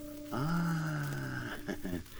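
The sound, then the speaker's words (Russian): A voice imitates a loud, drawn-out snore: one long, buzzing, nasal note, then a couple of shorter snorting breaths, clear with no other sounds around it. “О, храпит кто-то.”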